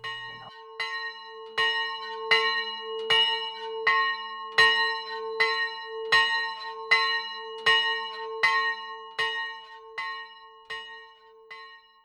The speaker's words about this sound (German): Die Andacht wird eingeläutet von der Glocke am Gemeindezentrum Erikaweg.